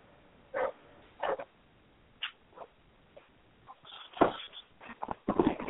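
dog barking and whimpering

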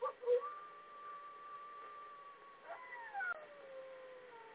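wolves howling

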